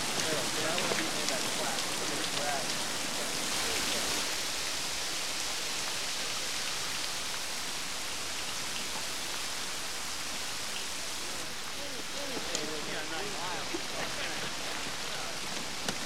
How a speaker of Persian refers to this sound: آب سرده یا گرمه؟ خوبه. دوش میگیری یا نه؟